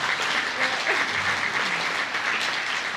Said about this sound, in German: Hey, so, so cool. Komm, lass uns doch nochmal einen Applaus dafür geben.